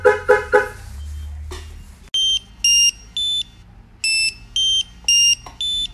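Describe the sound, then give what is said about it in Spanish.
Three sharp knocks on a car body trigger the shock sensor of a CompuStar car alarm, which sounds a loud, regular series of high-pitched electronic beeping bursts, repeating steadily, with no talking. “Y de igual manera tiene el sensor de golpes.”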